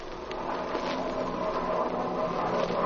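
An airplane comes in fast to land near a shack among trees, its engine a steady, even drone with a low rumble beneath a rougher buzzing hum, holding at a constant loudness throughout with no voices.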